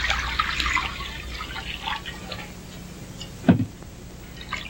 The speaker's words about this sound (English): Sarah washes her hands and face in a bowl of water.